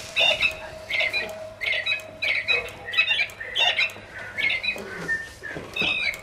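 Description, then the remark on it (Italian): Birds chirp and squawk in a steady run of sharp, shrill calls, repeating roughly twice a second over a faint low hum, with no one talking. “Cinguetta ne basta, dai.”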